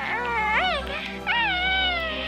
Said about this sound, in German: Ja, das war Baby Yoda aus der Star Wars Serie Mandalorian. Das süßeste Wesen seit Gizmo.